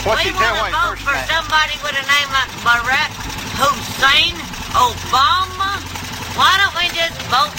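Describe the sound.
A motorcycle engine idles in a low, steady rumble underneath a person speaking loudly and continuously, the engine staying in the background the whole time.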